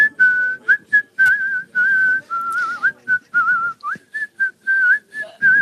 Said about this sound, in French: La chanson a sifflé de bon matin sous la douche. Je connais pas le titre, mais ce serait